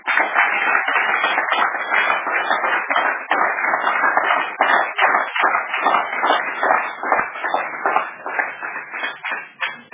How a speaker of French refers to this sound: C'est quelques gens qui applaudissent fort comme ça, je voulais vérifier le chrétien. Mais, il y a les applaudisseurs et les applaudisseuses ici.